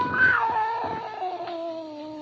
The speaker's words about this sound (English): Slowly, it moved out into my line of vision. It was a cat. That scrawny cat, Clara, that Mother Willis had sneaked to Port La Guaira.